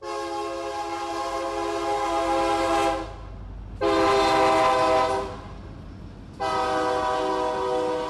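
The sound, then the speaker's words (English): A freight train's horn sounds three loud, sustained blasts, long, then shorter, then long again, over a steady low rumble of the train rolling past in Hancock County, Mississippi, on its run to and from New Orleans. “Freight trains barrel through day and night to and from New Orleans and past ruined main streets and vacant neighborhoods.”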